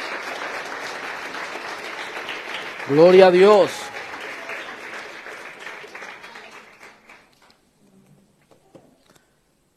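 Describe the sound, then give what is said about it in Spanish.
A church audience applauds for the fathers and mothers, dense, steady clapping that lasts several seconds before tapering off into quiet, while one voice briefly calls out loudly over the crowd. “¿Cuántos le dan un aplauso a los padres y las madres?”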